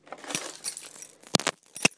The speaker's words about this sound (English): Just put my keys in my bedside chest drawers. So I forget where the buggers are when I want to go out or anything in the morning, which will be bloody annoying.